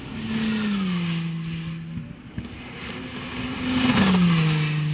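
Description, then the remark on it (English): The diesel engine of an Audi R10 TDI race car revs loudly and steadily, its pitch sliding down, dipping briefly, then climbing and falling again, with a sustained roaring drone and no voices. “Piero's car is called the Audi R10 TDI.”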